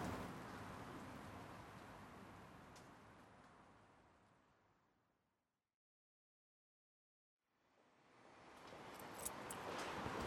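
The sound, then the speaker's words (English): Steady, dense rain in Japan patters and hisses on surfaces, fades away to complete silence midway, then swells back in just as thick. No voices are heard. “It's not quite that way in the rain. It's not like a radical transformation, but it is different, just a different vibe.”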